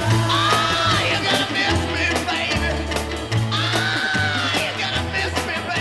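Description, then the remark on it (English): A raw, high-pitched rock vocal scream from a lead singer on a 1960s underground rock recording wails and bends twice over a loud, driving band with thumping bass and crashing drums, the full mix dense. “That scream came from deep within the chest of lead singer”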